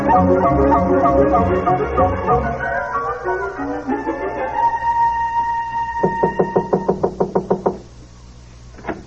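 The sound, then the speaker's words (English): A quick, even series of about ten sharp knocks on a door, loud, following a stretch of music that fades out just before the knocking begins. “Well, for goodness sake, I thought I heard someone at the door.”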